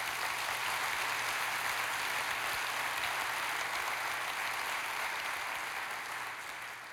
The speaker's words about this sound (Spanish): ¿Cuántos les pueden dar un aplauso a Dios por eso?